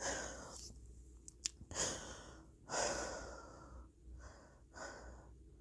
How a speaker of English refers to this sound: My breathing finally begins to slow when he relaxes his grip.